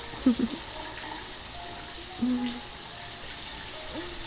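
shower water running

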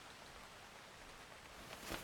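steady rain falling

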